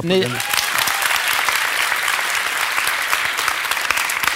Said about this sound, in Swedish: Men alltså, ni som tycker om åldras, ni applåderar nu.